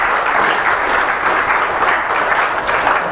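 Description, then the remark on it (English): An audience applauding together, giving the Lord a hand of applause and thanks, a dense, steady wash of clapping from many hands that stays loud and even throughout, with no voices standing out above it. “Give the Lord a hand of applause and thanks.”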